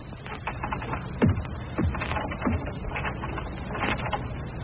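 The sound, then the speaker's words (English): A big key to a garage door scrapes and rattles in the lock, with several sharp metallic clicks and jiggles in an irregular rhythm, fairly quiet, with no talking. “Hey, you sure this is the right key? Well, I think so. It's all right. I've got it.”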